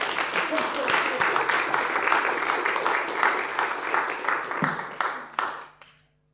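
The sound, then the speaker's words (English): A church audience breaks into steady applause for a woman after a prayer for her, dense overlapping claps sustained at a fairly loud level for several seconds before thinning out and stopping abruptly. “Do if you want to, give her a round of applause.”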